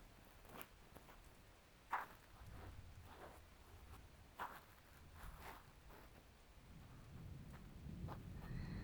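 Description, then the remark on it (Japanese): Steady rain falls softly throughout, a continuous hiss broken by scattered louder drips and splashes, with a low rumble building toward the end. No one speaks. “雨音は癒されます。”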